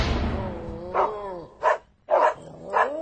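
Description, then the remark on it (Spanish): Dogs barking in a quick series of about four sharp, harmonic barks, loud, with brief pauses between them and no talking. “¡Otra vez esos malditos perros!”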